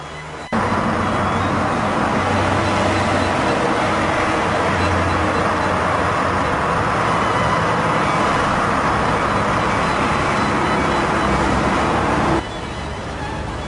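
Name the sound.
street traffic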